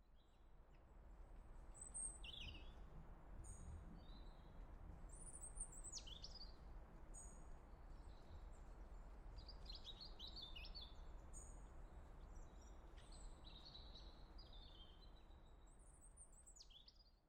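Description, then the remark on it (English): Birds chirp and sing throughout in a garden on a sunny day, with repeated high, bright calls and short trills scattered over a steady outdoor ambience and low rumble; no one speaks. “Listen, I can hear the birds already.”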